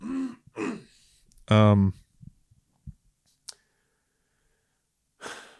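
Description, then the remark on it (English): A single loud throat clearing by a man, a gravelly voiced rasp from phlegm coating his throat, framed by soft breaths, a few faint mouth clicks, and a breathy exhale at the end. “I gotta clear my throat again.”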